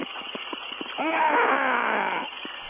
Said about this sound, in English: What was that? It's pissing me off. Get him in. Get him out here. Look, I can't have you on the air if you're going to scream like that. What was that about?